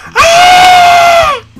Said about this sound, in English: why are you screaming? That wasn't me screaming.